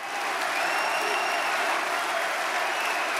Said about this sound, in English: Now, when Zemmour came on, what was he saying? I mean, he came on with his arms aloft and people cheering and clapping and shouting, Zemmour President, Zemmour President.